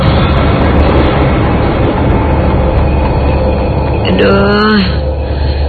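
A horse-drawn carriage rolls past in front of a hotel at night, with a loud, steady rumble of wheels filling the whole stretch, and a brief wavering high cry rises near the end before the noise eases slightly.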